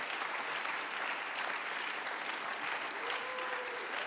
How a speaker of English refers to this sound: Believe that you ought to clap your hands. Si tú lo crees, debes aplaudir tus manos.